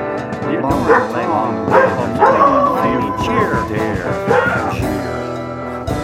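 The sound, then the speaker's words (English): A dog barks several times, loud, its sharp yelps overlapping with a voice that sounds like singing, the two tangled together throughout. “The dog barked right at the right time.”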